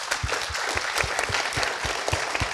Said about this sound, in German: Vielen Dank. Applaus nochmal bitte.